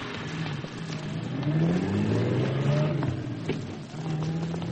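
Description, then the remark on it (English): A limousine's engine revs and accelerates, its pitch climbing and shifting through gears, fairly loud and close throughout, with steady road noise and no voices. “But it was a limousine, a Morland, I think.”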